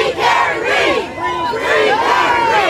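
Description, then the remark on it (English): A large crowd of protesters chants in unison outside a courthouse while a jury deliberates, many voices rising and falling in a steady rhythmic cadence, loud and continuous throughout with an open-air quality. “When the jury begins their deliberation, the crowds outside grow even more.”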